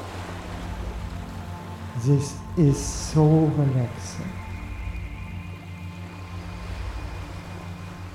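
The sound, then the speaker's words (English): Steady, soft wash of ocean surf on a shore runs through the whole recording, with a brief calm spoken phrase near the middle riding over the continuous water noise. “The sound of the rolling waves suit you more and more.”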